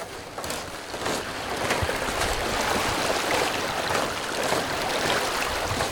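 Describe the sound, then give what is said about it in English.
Water churns and splashes steadily as something pushes through a shallow water crossing near Haynes, off Chilkat Lake Road, in icy conditions, a continuous rushing wash with scattered sharper sloshes and no voices. “Through some water, Haynes resident and Assemblyman Tom Morfitt advises on the best place to cross.”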